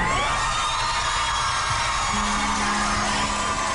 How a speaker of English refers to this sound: Who are these people cheering? Like, what is going on?